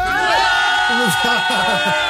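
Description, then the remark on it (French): A crowd of people at Tournesol, out in the cold rain, shouting together, a dense mass of loud overlapping voices with a rapid series of short, falling yells repeating in a steady rhythm through the second half. “Écoutez-les crier.”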